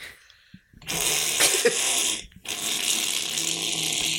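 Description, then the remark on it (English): Someone imitates a vampire hiss with two long, loud, breathy hisses separated by a short pause, with no talking. “All right, now, guys, do your best vampire hiss.”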